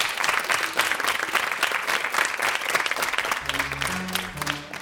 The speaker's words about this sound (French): la classe de 4e du Collège Chamgor de Corbeil-Essonne, la classe de 6e du Collège Eugénie Coton d'Argenteuil, la classe de 1ère du lycée Jules Ferry de Conflans-Sainte-Honorine que vous pouvez applaudir bien fort.